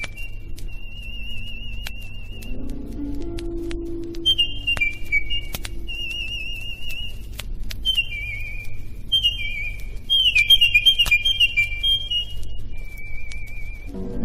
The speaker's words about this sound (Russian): и соловей стал петь. И пение его напоминало журчание воды, льющейся из серебряного кувшина.